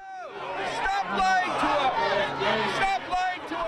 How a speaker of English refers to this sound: Not even Joan Rivers is this rude to movie stars, but a small and, as you can hear, extremely vocal part of the crowd attending Santa Monica College graduation last night made it tough to even make out Arnold Schwarzenegger's commencement address.